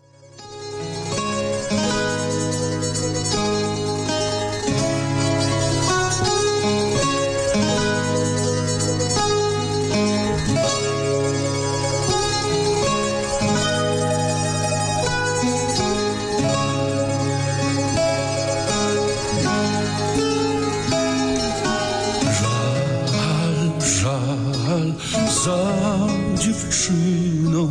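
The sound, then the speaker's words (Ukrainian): A Polish-language song about Ukraine plays loud and steady from start to finish, with full instrumental backing in a dense, continuous texture and no talking over it. “найбільш відома пісня про Україну польською мовою.”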